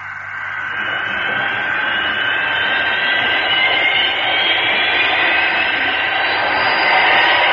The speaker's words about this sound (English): The powerful jet engines lift the Fireflash airliner effortlessly into the sky. Its long, sleek body angles upwards as it climbs to supersonic altitude.